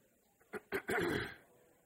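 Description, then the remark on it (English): Someone clears their throat during a class: two quick rough catches, then a longer harsh rasp that fades out. No talking. “I've developed a frog in my throat here, so I may be trying to clear my throat all through the class.”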